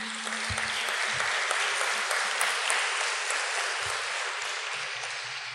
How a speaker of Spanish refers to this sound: vamos a recibirla con un aplauso.